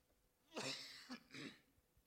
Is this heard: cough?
yes